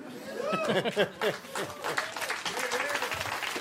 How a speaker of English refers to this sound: Don't applaud that. It's so stupid.